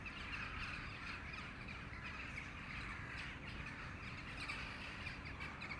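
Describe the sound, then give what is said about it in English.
A dense, continuous chorus of corvid calls, with harsh caws from crows mixed into the higher chattering of a large rising flock of some 400 or 500 jackdaws, steady and loud throughout with no talking. “You see, I can hear crows amongst all those jackdaws, but I'm just wondering if it's just, you know, solitary crows passing over.”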